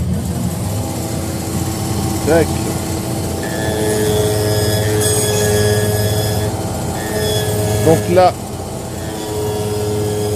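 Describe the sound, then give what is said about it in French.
A shoe sole trimming and sanding machine runs with a steady mechanical hum and whine. It has a small rotating cylinder of blades that trims the side of the shoe, plus coarse and fine sandpaper and brushes. Its pitch rises briefly as the blades bite; a man speaks briefly over it. “un petit cylindre rempli de lames qui tourne pour faire le côté de la chaussure”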